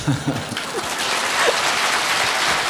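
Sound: audience applause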